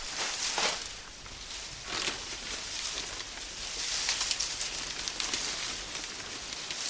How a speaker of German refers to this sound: Und die Blätter auf dem Boden fangen an, durch die Luft zu fliegen. Dann haben wir nun schon Windstärke 4. Auch Blätter aus Papier fangen nun an zu fliegen. Aus der leichten Brise ist eine mäßige Brise geworden.